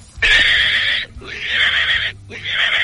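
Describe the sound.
A person imitates a pig speaking Japanese with three loud, squealing bursts in quick succession, each about a second long and separated by brief pauses, in a choppy, speech-like rhythm.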